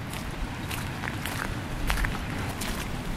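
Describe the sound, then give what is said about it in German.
Steady footsteps walking at an even pace over a bridge across a fish ladder on the Neckar, toward the Poppenweiler lock, each step a short crisp crunch over a low, continuous rumbling background, with no voices. “Jetzt gehe ich über eine Brücke, die über die Fischtreppe führt, auf die Schleuse zu und man hört nun auch, dass das Wasser schon deutlich lauter wird, denn ich stehe jetzt genau über der Fischtreppe.”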